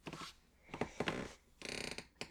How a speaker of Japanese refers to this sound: そう、これも言い忘れてたんですけど、防音室なのでギシギシ言ってます。